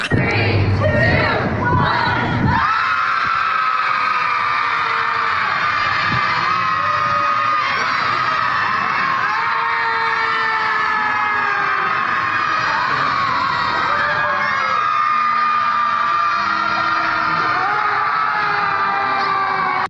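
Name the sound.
crowd screaming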